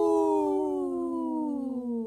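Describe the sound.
A person in the background on Native Roots Radio imitates a wolf with one long, sustained howl that slowly slides downward in pitch, heard clearly with nothing else alongside it.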